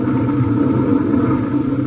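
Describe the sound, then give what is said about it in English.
A car engine rumbles steadily and fairly loudly, a low continuous drone as the car drives out of a garage attached to a house, with no voices over it. “He drives out and you don't do nothing?”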